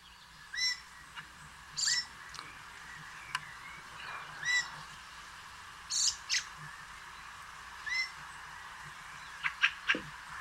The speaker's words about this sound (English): I think Fieldfare is the bird. All right. And the bird is Fieldfare.